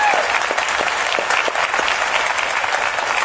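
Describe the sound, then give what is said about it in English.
An audience applauds Gail Thackeray steadily, dense overlapping claps forming a loud, sustained wash of noise that holds an even level from start to finish with no voices on top. “Let's give her a big round of applause for what she's done.”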